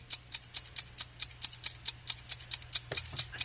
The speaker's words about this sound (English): The clock is ticking. And, running out.